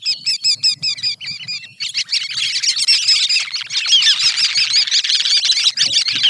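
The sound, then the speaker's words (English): Sanderlings (hunakai in Hawaiian), small shorebirds, giving soft, squeaky wick-wick calls: a quick run of evenly spaced high notes, then a dense, continuous twittering chatter of many overlapping calls. “You can listen for a twittering series of soft, squeaky wick-wick calls.”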